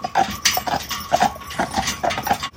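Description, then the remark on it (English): Horse hooves clip-clop in a steady, even rhythm on a hard road, fairly loud, with a faint rumble underneath and no voices; a horse is pulling a brewery dray delivering beer. “it even tastes better when you deliver it by horse and dray.”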